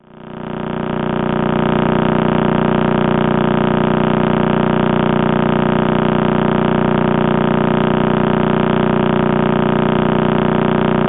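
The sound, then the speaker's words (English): A radio recording of a pulsar, the collapsed neutron star remnant at the heart of a Messier catalogue object, rotating about 30 times a second, rendered as sound: a loud, steady, rapid buzzing drone with a low hum and stacked overtones, unchanging throughout, rather like an idling engine or road drill. “And this is a recording of that pulsar rotating about 30 times a second.”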